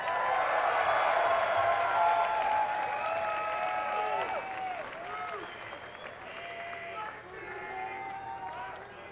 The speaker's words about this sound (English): How about a big hand for Space Dog?